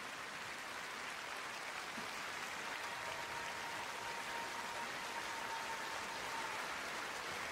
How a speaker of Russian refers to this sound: Еще раз ваши бурные аплодисменты. Маэстро … и …. Какой блистательный союз.